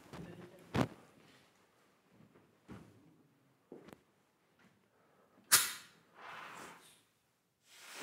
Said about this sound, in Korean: 시간이 흐르자 배터리가 빵빵하게 부풀어 오르며 연기가 피어납니다. 불꽃이 튀기더니 펑소리와 함께 폭발합니다.